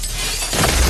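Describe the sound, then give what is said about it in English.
A high-story glass window shatters as someone leaps out through it, a harsh, bright crash of breaking glass that swells louder partway through and fills the full second with dense, crackling debris noise. No voices. “Blade suddenly leaps out of a high-story window.”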